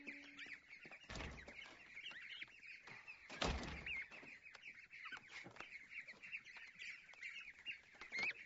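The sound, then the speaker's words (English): Goslings peep steadily in high, thin chirps, with a couple of brief rustling thumps breaking in. No one speaks. “Listen, my daughter found some goose eggs down in all that mess.”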